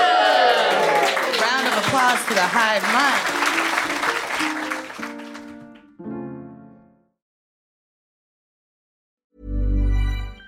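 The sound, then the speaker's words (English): An audience bursts into loud applause mixed with whoops and cheers for the quiz team the Hive Mind, edging ahead with 5 points, which fades after about five seconds into a few sustained tones. A brief silence follows before a low voice begins. “Applause to the Hive Mind.”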